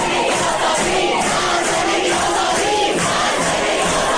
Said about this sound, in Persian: اعتراضاتی شبیه به این فریادها که 3 آبان سال گذشته در دانشگاه علامه طباطبایی سر داده شد.